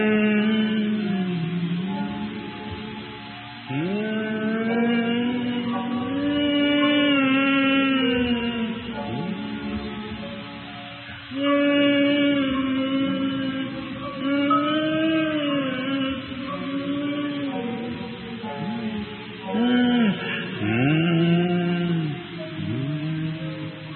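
An audience hums a slow hymn melody together in long, sustained phrases that rise and fall, with short breaths between phrases and no words sung.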